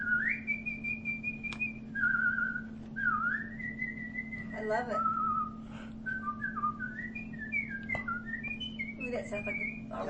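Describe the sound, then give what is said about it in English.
A person whistles a lively, bird-like melody, sliding between pitches with quick trills and chirps, running continuously for about ten seconds over a faint steady hum. “My household knows this, but I'm pretty good at whistling.”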